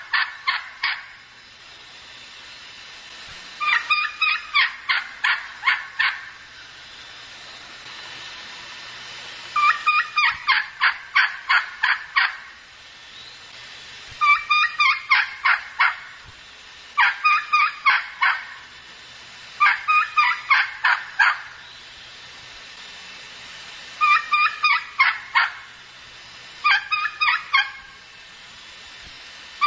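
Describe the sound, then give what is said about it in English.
A young wild turkey hen, not a poult, gives repeated kee-kee runs into yelps, clear bursts of rapid high whistles and yelp notes, about eight bouts spaced a few seconds apart, loud against a quiet outdoor background. “Let's listen to this wild hen's rendition of the kiki run, the yelp.”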